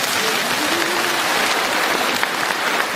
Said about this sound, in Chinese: 鼓掌